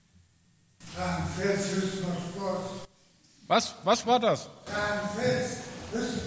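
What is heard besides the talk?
coughing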